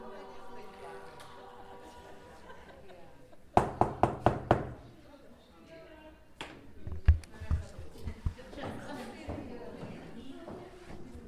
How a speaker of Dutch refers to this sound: Als de laatste klanken wegsterven, kloppen we aan en gaan de zaal binnen.